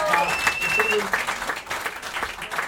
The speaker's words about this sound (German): Kleiner Applaus für den jungen Mann, der ist... Ja.